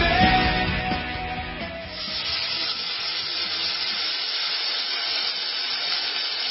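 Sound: sizzling frying sound effect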